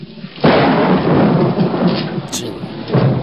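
A loud thunderstorm roars, a sudden heavy rumble of thunder swelling in over steady pouring rain that hisses throughout, with another surge of rumbling near the end.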